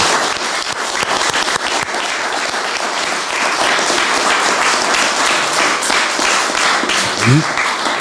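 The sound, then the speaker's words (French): Sustained applause from a studio audience for a guest on the set, a dense, steady wash of many hands clapping at an even loudness for the full duration, with a brief voice near the end. “Applaudissements pour ce.”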